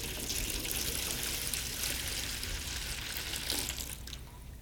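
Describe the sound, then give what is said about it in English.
Water pours steadily from a pitcher into a basin, a continuous splashing rush that holds for several seconds before easing slightly at the end. No one speaks. “he gets a bucket of water, a pitcher of water, and he takes a basin, and he begins to fill the basin.”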